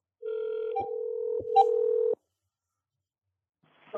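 A steady telephone dial tone hums for about two seconds, interrupted by a couple of short keypad beeps as a phone call is dialed, then cuts off into silence before a faint voice begins at the end.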